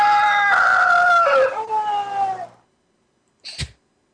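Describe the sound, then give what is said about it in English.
A rooster crows in a strained, wavering call that sags in pitch and trails off weakly after about two seconds, followed by a brief pause and a short, sharp noisy burst. “It's the worst crow I've ever.”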